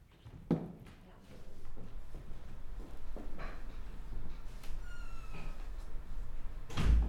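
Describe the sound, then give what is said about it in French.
A person closes their door: a sharp knock early on, shuffling and a brief squeak, then a loud, solid thud as it shuts at the end. “Je ferme ma porte.”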